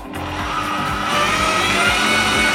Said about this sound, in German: Für die heutige Episode habe ich den Mixer angeworfen.